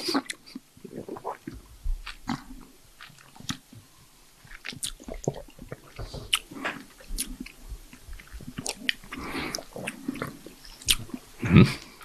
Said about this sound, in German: Wir schmatzen hier so alle vor uns hin, wundern uns über diesen Wein. Also wenn es still ist, ist es meistens gut.